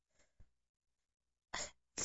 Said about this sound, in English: but inside my nose, it's a tickle. It's way. Trying to make me sneeze. My breathing begins to hitch.